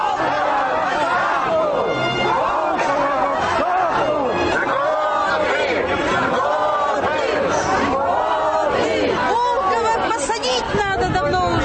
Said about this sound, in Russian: И перед фасадом резиденции президента Удмуртии продолжили митинговать.